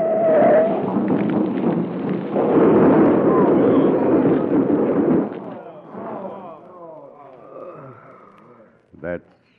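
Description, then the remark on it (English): A freight car (boxcar) tips over on a curve and crashes in a flaming wreck: a heavy, roaring crash of rumbling and grinding metal fills the first half, fading into scattered rattles and debris under voices, then ends with one sharp bang. “Smashed up in the wreck of a flaming freight car.”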